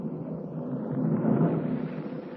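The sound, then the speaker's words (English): Thunder crashes overhead in a deep, rolling rumble that swells slightly in the middle and holds steady for a couple of seconds, loud, with no voices, as a jagged streak of lightning splits the darkness. “A jagged streak of lightning splits the darkness and thunder crashes overhead.”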